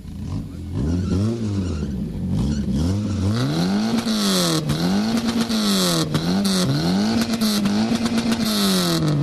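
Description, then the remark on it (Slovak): A car engine revs repeatedly through a loud, throaty exhaust while its exhaust noise is measured at a car meet, reading about 110 decibels; the pitch rises and falls in a rhythmic series of blips, continuous with a raspy high-end roar. “Vážení dámy a páni, kto si to chcete odmerať výfuk, odporúčam naštartovať si auto, zohriať si trošku motor dopredu.”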